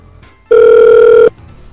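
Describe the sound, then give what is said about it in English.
A single steady ringback tone over a phone line, one loud buzzing burst lasting under a second, with faint line hiss before and after and no one talking. “Maybe she'll pick back up to *57 me.”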